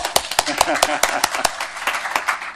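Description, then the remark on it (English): An audience claps and applauds at the City of Portland's proclamation of the 30th annual Great Blue Heron Week, a steady patter of overlapping sharp hand claps with louder individual claps popping out irregularly, sustained for a few seconds at moderate loudness. “Let's hear it for our bird and the people that care about it.”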